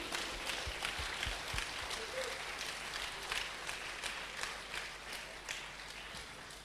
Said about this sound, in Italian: Accomodatevi, facciamo un applauso a Gesù.